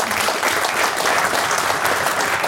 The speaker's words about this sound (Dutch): Eerst even applaus, hè, voor de mensen hier.